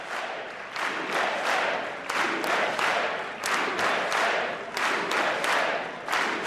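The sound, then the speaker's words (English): A large crowd cheers and chants "USA, USA" in a steady, repeating rhythm, with loud bursts of voices rising and falling several times a second over a constant roar, as President Trump approaches the podium. “And we're cheering, chanting now of USA, USA.”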